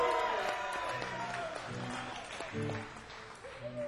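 A crowd claps and cheers steadily for a few seconds at a live show, a dense even wash of applause with a few sustained instrument notes and stray voices mixed in.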